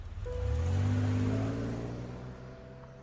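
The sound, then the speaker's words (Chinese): An off-road SUV's engine starts and rumbles, revving up, its low tone rising as the vehicle speeds away, gradually fading, with no voices. “罗军向两人挥挥手，走向自己的越野车。马达声响起，汽车疾程而去。”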